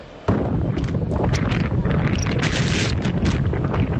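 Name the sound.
strong wind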